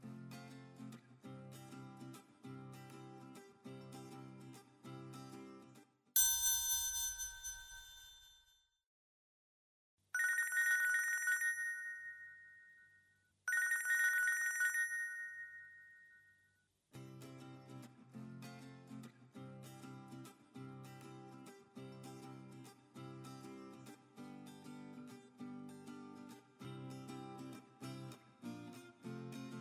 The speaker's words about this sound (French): c'est un téléphone qui sonne.